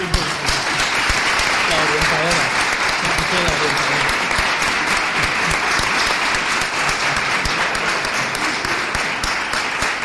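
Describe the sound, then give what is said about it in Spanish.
Sustained audience applause for a team of monitors from the Agencia de Desarrollo Local y Empleo, a dense, steady wash of many hands clapping at full volume for about ten seconds, with a few voices faintly audible beneath it. “pero antes vamos a darle un aplauso a estas monitoras, al gran equipo que tenemos, que pido a todas ellas que vengan para acá, de la Agencia de Desarrollo Local y Empleo, para el que pido un aplauso.”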